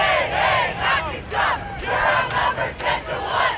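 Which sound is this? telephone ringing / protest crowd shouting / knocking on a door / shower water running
protest crowd shouting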